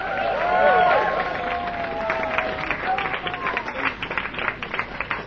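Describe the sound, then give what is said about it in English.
A crowd breaks into applause for a band that has just performed, dense clapping mixed with cheers and whoops at first, then settling into steady, rhythmic clapping from a large audience. “A big round of applause”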